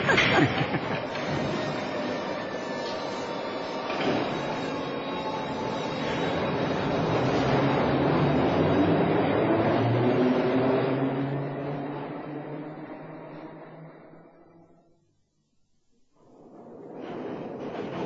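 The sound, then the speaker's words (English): A loud, continuous rumble and clatter of an underground train racing through a tunnel, with rhythmic wheel noise and a rising roar that drops away to near silence before the rumble returns. “It's just the teeniest bit scary, don't you think? What was that? Hurtling along like this underground.”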